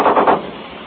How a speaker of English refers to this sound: Machine gun just fired. Our machine gun just fired from the fast shot. Three or four shots, you probably heard it.